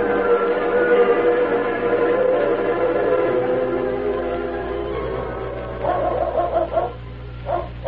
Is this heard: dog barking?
yes